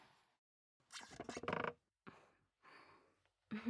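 A computer chair creaks and squeaks in several short, uneven bursts as someone settles onto it, with brief quiet gaps between the strained mechanical groans and no voices.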